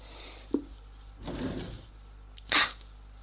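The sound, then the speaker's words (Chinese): An unlocked drawer in a messy room slides open with a soft scraping rush, framed by a faint knock before it and a sharper clack as it stops, with no voices. “算了，这抽屉又没上锁。”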